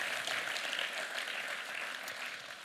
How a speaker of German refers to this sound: Ich habe es selten mal so empfunden wie heute, dass ihr mich einfach in den Worship mit hineingetragen habt, mich mitgenommen habt und euch dann einen riesen Applaus dafür.